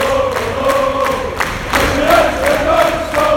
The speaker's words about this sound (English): Very prolonged, a bit of applause from the supporters and the players actually.